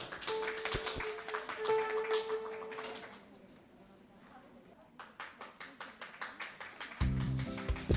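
Audience applause for two local musicians fills the opening seconds as a dense patter of many hands, fades briefly, then returns as steadier rhythmic clapping before instrumental music, Mendelssohn's Spring Song, begins at the end.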